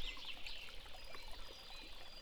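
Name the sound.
river water flowing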